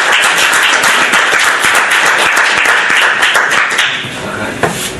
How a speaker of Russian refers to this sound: Так, ну, аплодисменты. Вам аплодисменты.